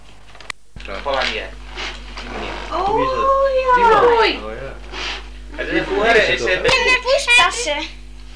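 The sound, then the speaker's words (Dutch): A cat meows several times, long rising-and-falling cries with a whiny tone, mixed with bits of background talking and small clattering noises. “Hé, ik weet een goed idee wat je met de poes moet doen.”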